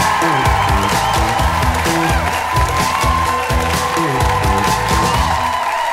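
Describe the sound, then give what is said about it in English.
A comedy show crowd cheers and applauds steadily and loudly for the full six seconds, with whoops mixed in, over a repeating, thumping bassline of walk-on music, as the next comedian, a regular at the Comedy Cellar in New York, is brought up. “Please give it up one more time”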